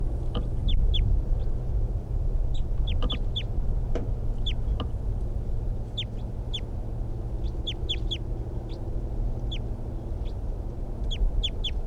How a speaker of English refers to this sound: That wild bird, I think, is still in the tree, but it's very quiet, and the decoys are also very quiet. So I don't know what's going on. Stop. Wild bird. Wild bird.